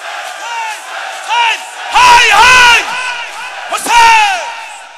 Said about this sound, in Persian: های اولین فریاد تو، هر جوری دوست داری فریاد بزن.